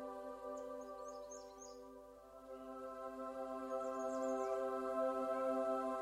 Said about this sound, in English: Overhead, there's an array of dazzling birds that call to one another and fly with ease.